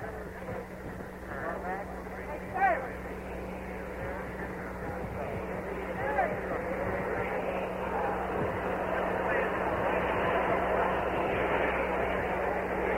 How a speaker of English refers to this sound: The helm of the government is in the hands of Lyndon Johnson, the new president of the United States. His helicopter now about ready to leave. It is an Army helicopter, not a Marine helicopter.